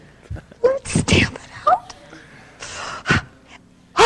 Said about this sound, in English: Breathing heavy.